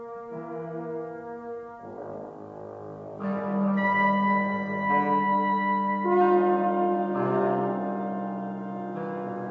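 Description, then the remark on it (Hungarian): A brass horn blares a fanfare signalling a guest's arrival, long sustained notes that shift pitch every second or two, swelling louder midway, with no voices present. “Hallott? A végítélet harsonája kürt.”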